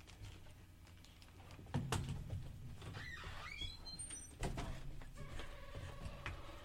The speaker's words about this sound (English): I don't hear it anymore. Well, thank you. I shut the door